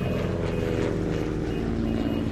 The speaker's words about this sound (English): An airplane takeoff or two?